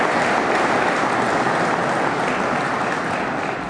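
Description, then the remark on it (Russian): A sustained wash of audience applause during a speech to the government and Federal Assembly deputies, following a call to lower the tax burden; many hands clapping together in a dense, steady roar that holds at a loud, even level for several seconds with no voices. “Отвечая на ваши аплодисменты, скажу больше, обращаясь и к правительству, и к депутатам Федерального собрания.”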